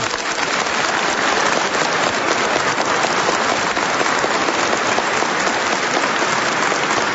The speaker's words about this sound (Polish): Z uśmiechem na twarzy i z radością w sercu i gorącymi oklaskami witamy wszystkich słuchaczy Radia Maryja, którzy w tym momencie są razem z nami. Gorące brawa dla nich.